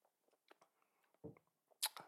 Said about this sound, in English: Woo! Another sip of beer.